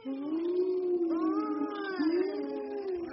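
A long, wavering howl imitating the wind, made by a voice, its pitch swelling and dipping in two drawn-out moaning sweeps, steady and fairly loud with no talking.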